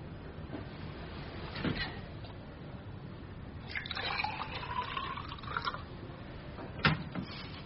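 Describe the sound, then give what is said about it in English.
Water pours into a glass for about two seconds, its pitch rising as the glass fills, set among light clinks and handling noises against a quiet background hum. “May I trouble you for a glass of water?”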